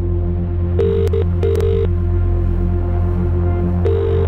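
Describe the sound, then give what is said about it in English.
A phone call being placed: a cluster of short electronic dial tones, a pause, then a ringing tone starting, all over a steady low hum with no one talking. “Let's dial them up. We are ringing. Please pick up the phone.”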